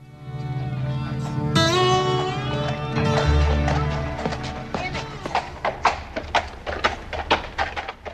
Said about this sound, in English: Twelve men on horses ride slowly into town. Their hats are low on their faces. They stop in front of the Clay County Savings Bank.